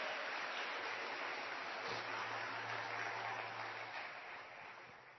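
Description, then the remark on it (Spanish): An audience claps in praise to God Almighty together in a dense, steady wash of applause that fills several seconds before slowly tapering off, with a low sustained tone humming underneath partway through. “¿Cuánto le dan palmas de alabanza al Dios Todopoderoso?”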